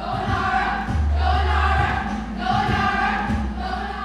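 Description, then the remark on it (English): A crowd of children dancing as hip-hop mice cheers and shouts loudly and continuously for a fellow mouse dancer at a Nutcracker dance-off by the Hyde Park School of Dance, voices rising in two bursts of excited yelling over a deep, steady bass thump from music. “Those are hip-hop dancing mice cheering for one of their own, 11-year-old”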